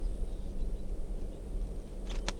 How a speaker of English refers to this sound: Chitter, the wild bird. And it's a male. Wild bird. Red male. With a right crossing bill.